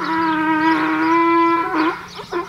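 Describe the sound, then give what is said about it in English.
A donkey brays loudly at a donkey rescue sanctuary outside San Angelo, Texas, a long, strained, nasal note held for over a second before breaking into rougher, gasping bursts at the end. “Just like its hee-haw, so much about the donkey is species-specific.”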